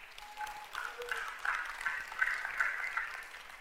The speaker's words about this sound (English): Did that help anybody? Yeah. Well, give God a hand clap. Yeah.